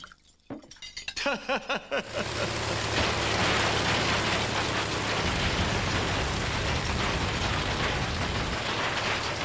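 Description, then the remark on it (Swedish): An engine running: a couple of seconds of rhythmic metallic clinking give way to a loud, steady, rumbling roar with a low droning hum that carries through to the end. “Låter fint, den där motorn är fantastisk!”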